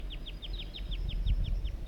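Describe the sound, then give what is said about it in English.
A juvenile wild bird, joining a singing wild male, calls in a rapid series of about eleven high, short downward-slurred chirps, evenly spaced over a low, rumbling background. “These are the vocalizations of the juvenile.”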